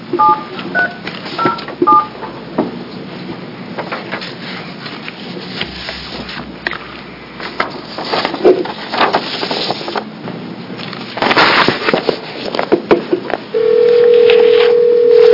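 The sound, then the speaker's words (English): A phone keypad beeps through a quick series of dialing tones amid faint handling clatter, then a steady electronic ring tone sounds near the end, clear with no one talking. A call is being placed to a guest in Chicago for the Oregon Legislature's Senate General Government Committee. “I'll read the bio as soon as he gets her on the phone.”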